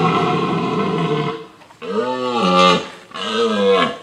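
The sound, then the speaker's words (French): A red deer stag bellows during the autumn rut, a deep roaring call followed by two long, groaning bellows with a pause between, loud, with no voices. “Avec ses bois et son brame caractéristique de l'automne, il attire de nombreuses familles espérant pouvoir l'observer.”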